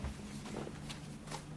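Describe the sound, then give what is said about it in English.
Soft, quiet footsteps of a woman crossing her bedroom to her bed, over a low steady hum, a few muffled steps spaced unevenly with no voices. “She crosses the room to her bed”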